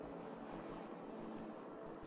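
vehicle, helicopter flying overhead

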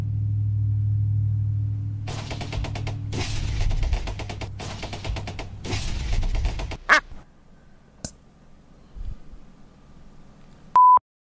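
vehicle, loud truck driving past

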